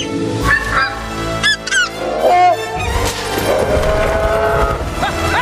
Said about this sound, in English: Puss hangs on as the mother goose chases Humpty.